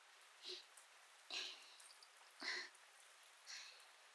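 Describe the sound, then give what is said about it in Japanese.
Light rain of a sun shower, falling while the sun shines, in the mountains, in a soft, steady hiss, with four louder splashy bursts spaced about a second apart. The sound is quiet, and no one speaks. “まあ天気雨じゃから、すぐ山じゃろ。ちょうどよいから雨宿りしていけ。”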